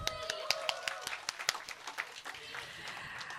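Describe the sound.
An audience breaks into applause, a dense patter of many hands clapping at a steady moderate volume for a few seconds, with faint crowd voices murmuring underneath.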